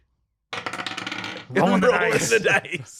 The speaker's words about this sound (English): Rolling the dice.